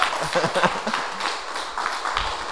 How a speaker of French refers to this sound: on peut applaudir encore parce que